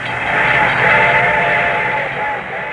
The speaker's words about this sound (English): The train was coming closer. I could hear its bell ringing and the cry of its whistle.